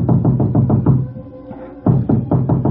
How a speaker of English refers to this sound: 20 minutes later, there was a knock on my door.